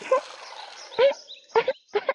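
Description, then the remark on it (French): A puppy inside a kennel coughs four times because of a sore throat, in short, raspy, throaty bursts spaced unevenly over a couple of seconds, fairly loud with nothing else around them. “Et à l'intérieur, quelqu'un tousse. C'est un chiot.”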